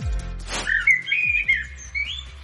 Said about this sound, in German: Ja, das ist einfach. Hier singt die Amsel.